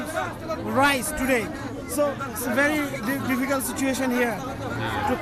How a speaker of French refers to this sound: La foule est agitée et pousse de plus en plus vers la porte en fer qui abrite le centre de distribution. Les hommes pressent d'un côté de la rue et de l'autre, les femmes, souvent accompagnées de petits-enfants, perdent patience.